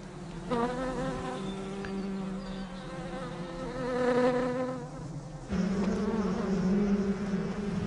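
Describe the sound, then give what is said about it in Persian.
A dense, steady buzzing of hundreds of bees bringing nectar to their hive inside a dry tree trunk, layered wingbeat drones rising and falling in pitch as individual insects fly past, continuous throughout with no voices. “صدها زنبور بار گرانبهای خود را به کندو می آورند که در این تنه خشک قرار دارد.”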